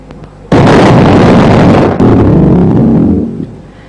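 A sudden, very loud bomb blast in an Alto car in Quetta, Pakistan, the second blast there that day, erupts after a brief quiet moment, followed by a heavy rumbling roar that sustains for a few seconds before fading out.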